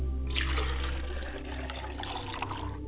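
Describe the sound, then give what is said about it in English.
Water is poured steadily into a glass as a libation for about three seconds, a continuous splashing trickle with no talking over it. “I pour libations to my mother's side of the family as I pour a glass of water.”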